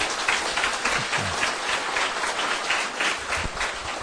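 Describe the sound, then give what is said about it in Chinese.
A crowd applauds steadily to welcome the chairman of a Buddhist Pure Land society before the welcome address, many hands clapping at once in a dense, even wash of sound that holds at a fairly loud level for about four seconds, with no one speaking. “让我们以最热烈的掌声欢迎我们的理事长为我们致欢迎词。”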